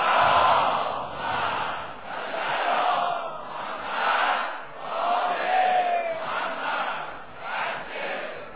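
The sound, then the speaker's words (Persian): A large crowd loudly chants salawat in unison, voices swelling and falling in repeated rhythmic phrases, sustained and dense throughout with no single speaker standing out. “بنابراین به روح همه شون بلند صلوات بفرستن.”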